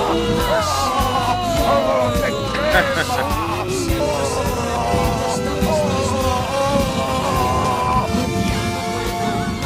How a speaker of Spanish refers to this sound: O podemos decir: el Consejo General del Poder Judicial, pero en realidad lo que corresponde es ponerlo todos a la vez, poner todos los gritos a la vez y decir: el Consejo General del Poder Judicial, ¡no quiero irlo!